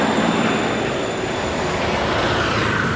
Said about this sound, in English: As I was walking down this road, oh fuck, great big convoy. Giant trucks coming. Let me get the fuck out of the way because this is a small road.